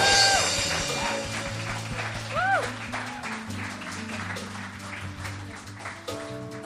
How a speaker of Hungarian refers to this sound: úgyhogy kérlek benneteket, hogy fogadjátok őt egy nagy szeretettel és nagy tapssal.